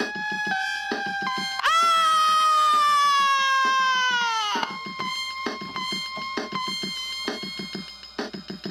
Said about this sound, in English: The woman's shriek of horror inundates the rapturous phantom.